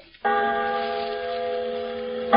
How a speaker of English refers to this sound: The voice of a great bell proclaiming liberty.